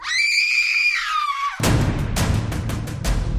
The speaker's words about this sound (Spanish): … gritó de nuevo con las pocas fuerzas que le quedaban